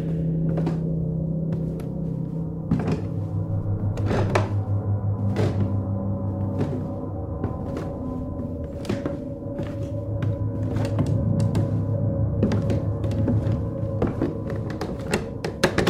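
A thump at the bottom of the stairs, then slow, deliberate, evenly spaced footsteps climbing the stairs, each step a distinct knock over a steady low droning background.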